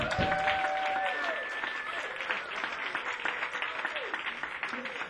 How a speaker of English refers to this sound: So let's have a round of applause. Another round of applause for …, bro.